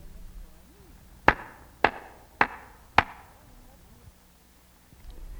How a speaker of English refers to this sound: Now we will all make a loud clapping sound. We will clap 4 times like this. Clap with me.